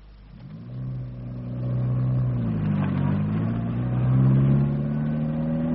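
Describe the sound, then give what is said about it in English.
A car engine drives up, its low droning hum climbing in pitch, dipping and climbing again as it shifts, growing steadily louder over several seconds with no voices. “Oh, I just saw him picking up young Jenny in his car.”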